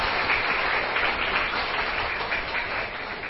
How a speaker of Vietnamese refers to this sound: Các cháu hãy dành tràng pháo tay để khen chính mình.